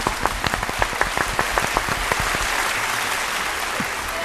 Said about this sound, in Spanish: Otro aplauso.